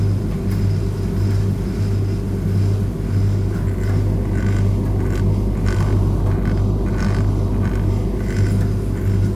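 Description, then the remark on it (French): A steady, low engine drone hums continuously throughout, with a deep tonal throb and faint higher hiss above it. The level stays even, and no one speaks. “Oh, bah, disons qu'il y a le ronron des moteurs, voilà, mais enfin bon, c'est l'arrière-plan.”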